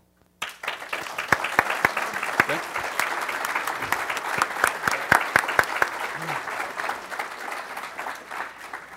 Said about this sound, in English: I think this group deserves a big round of applause for the monumental contributions they have made toward the study of the music we are so passionate about.